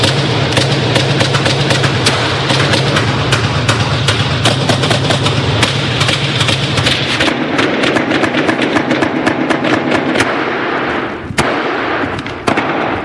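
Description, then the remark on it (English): Rapid, sustained gunfire from a shotgun and an assault rifle fired by two shooters who got out of a van and stepped toward a grocery store, loud sharp cracks piling up in long irregular bursts over a steady rumble, continuing without pause for over ten seconds; between 500 and 1,000 rounds were fired. “As we know, they get out of the van and take three steps toward the grocery, firing a shotgun and an assault rifle. And that gunfire, as you'll hear, it goes on and on and on.”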